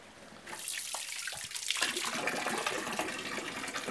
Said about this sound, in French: On vous envoie l'eau de nos fontaines.